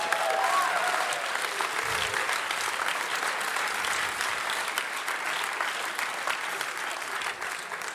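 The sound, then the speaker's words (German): An audience claps steadily for several seconds, a dense, even wash of many hands with no pauses and no voices standing out. “Da könnten wir auch Gott mal Applaus geben.”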